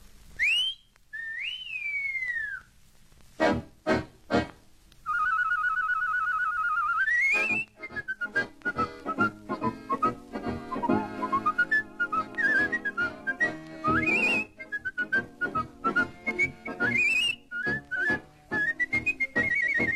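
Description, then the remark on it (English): A bright, warbling whistled melody with trills and sliding pitch runs, carried over a full band accompaniment with rhythmic percussion, playing steadily with no one talking. “The whistle we girls are waiting for.”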